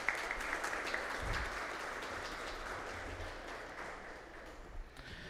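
Audience applause for a colonel at an official ceremony, a steady wash of many hands clapping at a fairly even level for several seconds, with no voices over it, tapering slightly toward the end.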